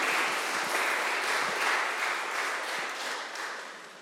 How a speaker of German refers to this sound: Und normal gehört hinter ein Gebet nicht unbedingt ein Applaus, aber ich finde, ihr habt einen großen Applaus verdient. So mutig.